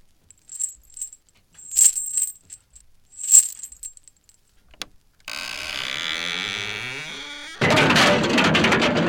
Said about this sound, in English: He tripped on the string. See? It's broken. And the pail of water fell right on him when our door opened.